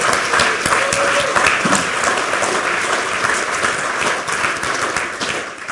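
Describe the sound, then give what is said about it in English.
Steady audience applause for the Lightning Talk presenters fills the whole stretch, many hands clapping at once in a dense, even roar that holds at a consistent loudness from start to finish. “Can we have a huge round of applause for all the Lightning Talk presenters?”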